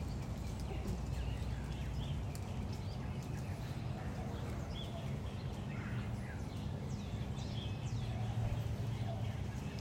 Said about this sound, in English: We came up out here to the corner of the patio. And remember all those birds you're hearing in the back? They're singing praises to God. Let's just listen.